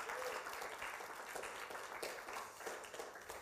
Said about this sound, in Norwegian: Kan dere gi en applaus til det her? Nydelig.